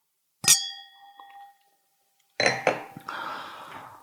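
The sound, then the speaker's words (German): Two champagne glasses clink once, sharp, leaving a clear ringing tone that fades over about a second; after a pause come a few clattering, rustling handling noises. “Und dann sagte er zu der Fahrradklingel, gehören natürlich noch dazu zwei Champagnergläser.”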